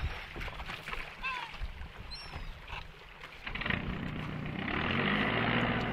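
A motorboat runs across open water on a five-minute trip to a small fishing cutter anchored off the Hannover Sand peninsula, its engine a steady broad rumble with splashing and wind noise that swells louder toward the end; a few faint bird calls cut through early on.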